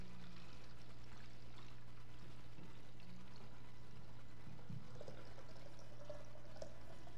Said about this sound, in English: And I've got one pitcher that's got water in it and one that doesn't. So let's just see. So they poured the water into the pitcher.